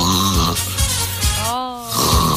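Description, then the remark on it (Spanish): Loud snoring: rough, rumbling breaths repeat in a few uneven pulses over about two seconds, with a throaty, voiced rasp that rises and falls. “Oye, estuvimos hablando durante la mañana de los ronquidos. El único que se fue y que se quedó dormido fuiste tú.”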